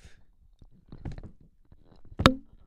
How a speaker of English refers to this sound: I don't know if you heard those three stomps. Yeah, we were stomping. There might have just been a big pause in us talking. We were trying to stomp for you.